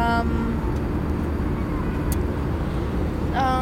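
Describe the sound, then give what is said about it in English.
Constant loud droning rumble of airplane cabin noise in flight to Portland, Oregon, fills the whole stretch, steady and even, with brief bits of voice from an interview being recorded at the start and near the end. “We are recording this interview in an airplane on the way back to Portland, Oregon.”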